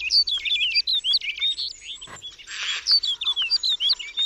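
Snow bunting calls: a busy stream of quick, twittering chirps and short whistled notes, fairly loud, running continuously with a brief rustling burst midway and no voices.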